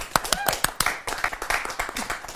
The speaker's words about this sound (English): But can we have a round of applause?